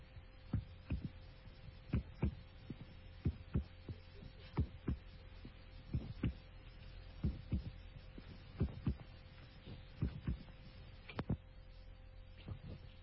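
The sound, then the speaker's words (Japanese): A voice imitates a heartbeat with steady paired thumps, lub-dub, repeating about every second and a half, fairly quiet over a low hum, with no other talking. “心臓の音。”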